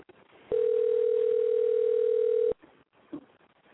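A steady, loud electronic telephone tone from an outgoing phone call holds one pitch for about two seconds, then cuts off abruptly, leaving faint background noise and a brief soft murmur.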